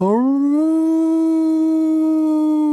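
Seals bobbing up all over the water sing; a long, mournful call swoops upward and then holds a steady, resonant howl-like note, loud with no other sounds around it.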